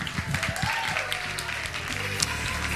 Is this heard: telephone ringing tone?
no